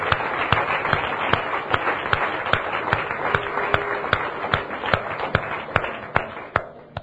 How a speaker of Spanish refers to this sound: Aplaude fuerte al Señor. Señor, este aplauso es para ti. Esta ovación es para ti, Señor.